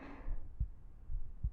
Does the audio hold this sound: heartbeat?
yes